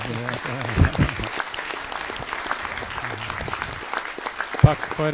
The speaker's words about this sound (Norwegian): Og det er, da tror jeg vi klapper for sjefen.